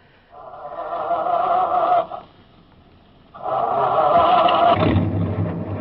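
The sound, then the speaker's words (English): A truck, grabbed with its keys left inside, whines as its engine cranks, pauses, then cranks again and catches, settling into a low, steady rumble as it starts to pull away, loud. “I will take a chance on the confusion and grab that first truck.”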